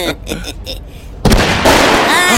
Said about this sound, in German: Kreisch. Was war denn? Da hat wieder irgend so ein Vollpfosten einen China-Böller in einem Hauseingang gezündet. Boah, ich bin voll erschrocken. Och, und mir klirrt's jetzt in den Ohren.